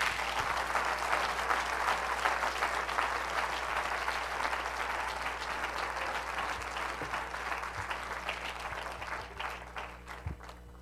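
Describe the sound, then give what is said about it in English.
Sustained applause from a large church audience for a group about to make a presentation, a dense, steady clatter of many hands clapping that holds loud for most of the stretch before gradually thinning out near the end. “But why don't you give them a warm applause as they make their presentation tonight.”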